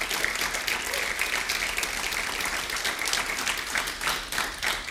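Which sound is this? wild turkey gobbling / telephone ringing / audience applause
audience applause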